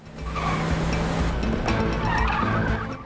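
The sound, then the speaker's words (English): Three cars race along a deserted road at speed, engines roaring steadily while tires squeal and skid as one swerves sharply, the whole passage loud with no voices. “The three cars career along the deserted road.”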